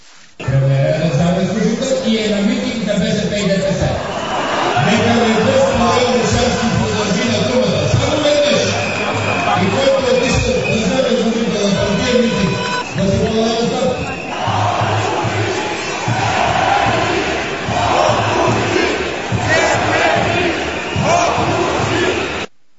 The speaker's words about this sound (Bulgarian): Чуйте атмосфера от митинга на ГЕРБ в Пловдив,